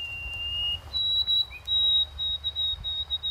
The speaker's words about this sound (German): Jetzt geht es noch um einen Singvogel und seine Dialekte, nämlich die Weißkehlammer. Das ist ein Sperlingsvogel, sowas wie ein Spatz, den es in ganz Kanada gibt. Und der ist bekannt für seinen Ruf.